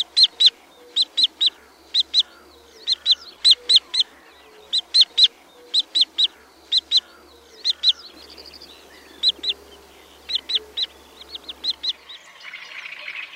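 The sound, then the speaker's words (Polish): Wood sandpiper calls ring out alone in quick clusters of two to four thin, high whistled notes, repeated steadily with short pauses between groups against a faint background hiss. “Są one jednak cichsze i delikatniejsze niż gwizdy, podobnie odzywającego się kwokacza.”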